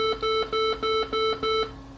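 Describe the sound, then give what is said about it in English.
Six loud, shrill electronic beeps from a server sound in a quick, evenly spaced series, each a steady tone of about a quarter second, signalling that a backup is complete; no voices present. “Completion of the backup was signalled by six loud beeps.”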